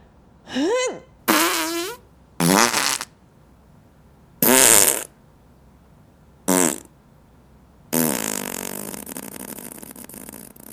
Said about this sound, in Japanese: お姉ちゃんに屁をぶっかけられて精子ぶっぱなしちゃったね。